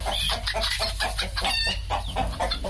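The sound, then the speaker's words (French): Many chickens cluck and squawk continuously in a busy, crowded chorus on a chicken farm in Santa, on the outskirts of Bamenda. The sound is steady throughout, with a low background hum and no talking. “Ndoukong Kennedy, 42 ans, élève des poulets à Santa dans la banlieue de Babenda.”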